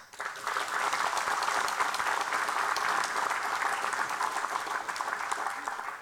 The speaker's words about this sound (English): I don't know whether you heard that, but everybody clapped.